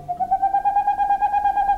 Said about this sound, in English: In the darkness of a northern forest, the hooting of a boreal owl. This is the male owl's song. These staccato notes can continue for more than an hour and carry for more than a mile.